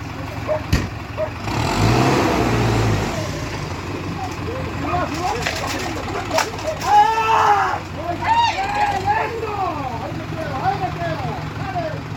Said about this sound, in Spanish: Te voy a contar lo que estoy viendo en este video. Hay un tractor acelerando a fondo. Arriba del tractor, al volante, está el dueño de una finca, por lo que dice en la descripción.